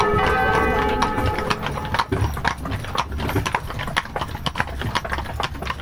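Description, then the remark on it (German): Steady clip-clopping of horse hooves on a hard surface as horses are being led, a quick continuous rhythm, with a low engine-like rumble and outdoor noise underneath. “Pferde vorführen, da geht es vorne links rum und dann noch ein Stückchen hin, ist eine Wiese.”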